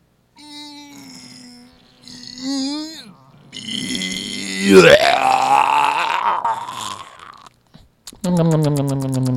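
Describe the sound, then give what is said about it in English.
A human voice imitates the meow of a sick cat that just ate every single chili: short wavering mews, then a long, strained, gurgling yowl that slides in pitch, and a final rough meow after a brief pause. “Can you please give us a three-word review of the 2017 Chili Bowl, followed by a cat meow of a cat who just ate every single chili?”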